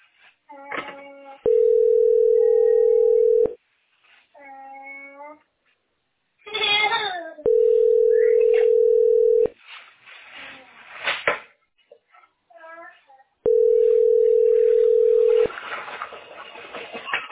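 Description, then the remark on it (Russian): A phone ringback tone sounds three times, each a steady two-second drone spaced several seconds apart and never answered, with a cat meowing and people talking between the rings. “Я думаю, никто не ответит, да, дети мои?”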